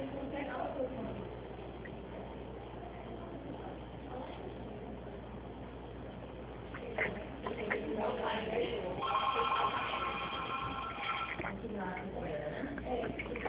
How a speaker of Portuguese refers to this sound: Ah, espera um pouquinho que meu telefone está tocando.